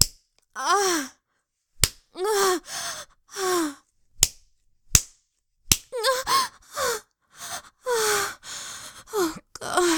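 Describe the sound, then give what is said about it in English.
Sharp slaps of a hand spanking bare buttocks land at irregular intervals, about five in all, each surrounded by a voice's breathy gasps and moans. “The way I tense up when you spank me.”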